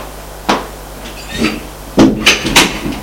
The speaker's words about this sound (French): Il y va. Frappe à la porte.